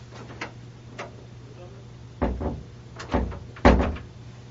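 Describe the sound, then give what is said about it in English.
A door that cannot be opened from this side is rattled and tugged from inside: a few light clicks, then several sharp knocks and thuds as the handle is jerked and the door bumps against its frame. “The door can't open from this side?”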